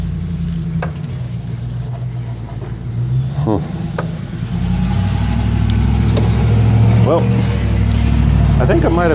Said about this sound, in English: Boy, that's a noisy truck right there.